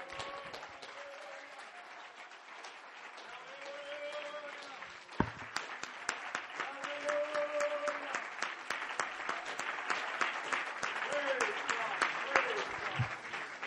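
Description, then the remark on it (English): A church crowd clapping their hands to Jesus, a steady dense applause that builds and grows louder after a few seconds, with cheering voices and shouts mixed in throughout. “If you believe that, would you clap your hands to Jesus?”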